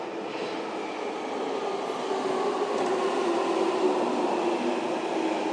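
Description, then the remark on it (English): A London Underground Jubilee line train pulls into a platform with platform edge doors, with a steady, building rumble and a faint whine, growing slightly louder as it arrives, with no voices present. “Right, here comes the train.”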